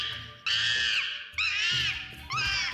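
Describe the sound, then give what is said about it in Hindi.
A monkey screeches in pain three times, its tail caught between two parts that snapped together like a clip, each cry loud, shrill and drawn out, with short pauses between them and no talking. “अब बंदर दर्द से चिल्ला उठा।”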